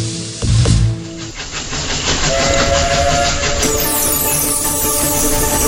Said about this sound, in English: Operating on selected days in December, you will get to ride through the winter countryside on a 10-mile steam train round trip,